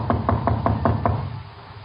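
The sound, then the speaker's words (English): Six quick, evenly spaced knocks rap on a door in a steady rhythm, fairly loud over a low background hum, then stop. “Don't answer it. But whoever it is must have heard us talking.”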